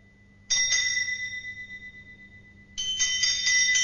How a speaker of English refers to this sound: It swung so softly in the outset that it scarcely made a sound. But soon it rang out loudly, and so did every bell in the house.